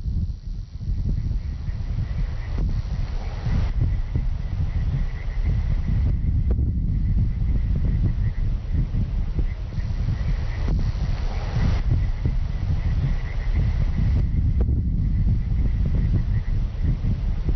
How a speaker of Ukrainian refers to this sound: Так звучить мертве поліське село Журба, коли смеркається. Птахи вже не співають, лише вітер віє, а в численних болотах і ставках кумкають жаби.